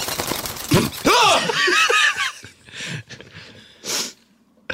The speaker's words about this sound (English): Sorry, I sneezed. Really unprofessional. I can't believe I sneezed a bird.